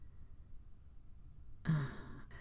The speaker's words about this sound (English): I'll take it from that gasp that you were not.